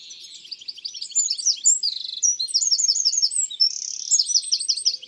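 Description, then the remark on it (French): A tiny bird weighing under 10 grams, which usually lives near the ground in bushes and undergrowth, sings a loud, shrill, vigorous song of rapid trills and chirps, repeating the same phrase at fairly regular intervals, with no voices present. “Il répète toujours la même phrase à intervalles assez réguliers.”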